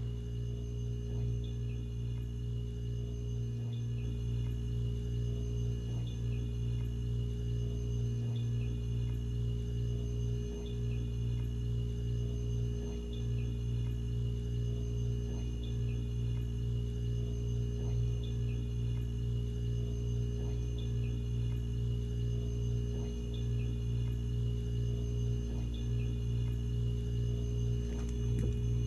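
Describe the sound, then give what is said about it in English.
A steady refrigerator hum drones on with strong low tonal bands and a faint high whine, interrupted by a few soft low thumps and occasional quiet clicks; no one speaks. “Listen to the sound of the refrigerator. That amazing sound that keeps our food cold each and every day.”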